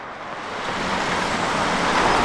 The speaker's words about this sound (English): The bus that just stopped at Penn Avenue and South St. Clair Street did not pull up to a shelter. There's supposed to be one here, and it would be nice. It's raining, it's pretty cold, it's windy.